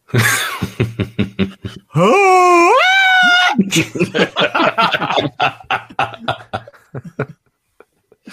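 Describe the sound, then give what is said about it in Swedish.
A voice imitates a shrill, girlish scream: one loud wail rising in pitch for about a second and a half, with people talking and laughing before and after. “Hans sista skrik blir väldigt tjejigt.”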